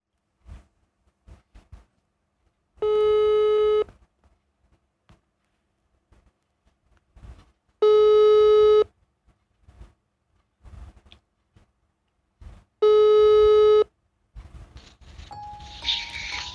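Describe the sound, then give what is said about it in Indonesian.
A phone ringback tone sounds three times, each steady buzzy tone lasting about a second with long silent gaps between, followed by a brief burst of line noise as the call connects. “Mari kita telepon.”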